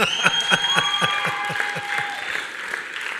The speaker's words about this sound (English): Clap hands for yourself.